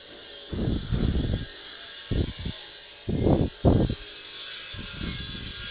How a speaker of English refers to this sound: We've got construction next to us, which you may or may not be able to hear. It's been going on since about 6:30, and it just seems to be endless circular saws hammering